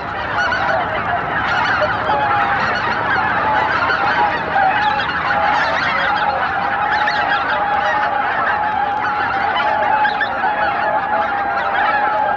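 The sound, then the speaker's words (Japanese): A large flock of swans returning from far away to Izunuma, Japan, shortly after 3 p.m. at sunset, honks and calls continuously, a dense overlapping chorus of many voices that stays steady throughout, with no talking. “午後3時過ぎ、遠くから群れが帰ってきました。”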